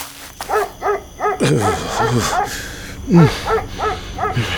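A dog barks repeatedly in quick, uneven bursts, some yips rising in pitch, with a few lower gruff barks mixed in, loud.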